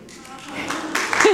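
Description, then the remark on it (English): A short stretch of audience applause for the speaker's son, who served as an honorary Senate page at the state capitol in Salem, a dense patter of many hands that swells louder over about a second, with a voice briefly breaking in at the end. “Oh, thank you for clapping for him.”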